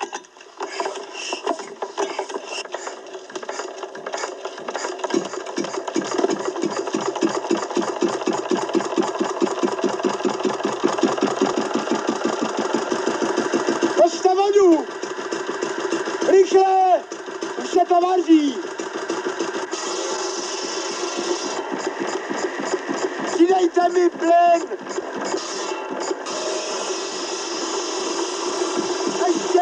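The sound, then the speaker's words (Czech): A small three-horsepower Slavia stationary engine, made in Napajedla, runs with a steady, low, rhythmic chug throughout, its beat holding even, while a few brief wavering whines rise and fall over it partway through. “Ale mezi lidmi asi nejznámější tříkoňová Slavia dědy Komárka, kterou vyrobili v Napajedlích.”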